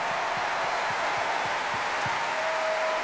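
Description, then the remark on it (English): Steady audience applause welcoming the BBC National Orchestra of Wales and composers Mark Ayres and Peter Howell before a classic Doctor Who medley, a dense wash of many hands clapping at an even, fairly loud level for the whole few seconds with no voices rising above it. “Please give them a huge classic round of applause.”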